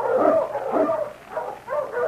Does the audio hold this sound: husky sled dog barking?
yes